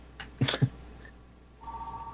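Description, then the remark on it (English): A few quick soft clicks and thumps, then a steady mid-pitched electronic tone starts and holds to the end, signalling an incoming phone call to the call-in radio show Off the Hook Overtime. No voices. “We have a phone call.”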